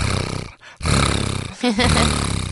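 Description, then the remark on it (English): A person imitates a contented cat with a loud, rumbling, rhythmically pulsing vocal sound, broken by two short pauses before the rumble resumes. “I know when a cat is happy, it does this.”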